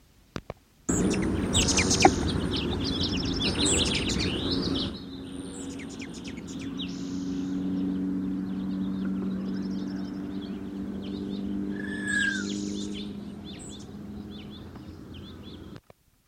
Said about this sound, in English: Aggressive chatter and wing whistle of male sasson, Franklin Canyon Study Area, 11 May 1969. Bird is probably of the mainland race.